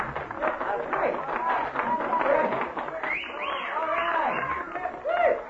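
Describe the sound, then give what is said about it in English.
A crowd at an amateur night applauds and cheers a performer, steady clapping mixed with whoops and excited voices, loud throughout, with a few rising shouts standing out near the end. “A great big round of applause.”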